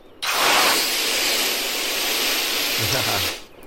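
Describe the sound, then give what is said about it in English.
Spray cans used as jetpacks blast a loud, steady hiss for about three seconds, bright and airy, then cut off abruptly. “Like, I'll use these spray cans as jetpacks and fly to safety.”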